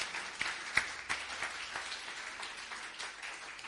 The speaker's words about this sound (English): You clap, but I'm teaching you.